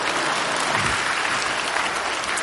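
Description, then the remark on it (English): An audience at a sermon applauds steadily after being asked to clap for heaven, a dense wash of many overlapping hand claps at even loudness throughout, with no one speaking over it. “Thank you for that courtesy and insincere clap.”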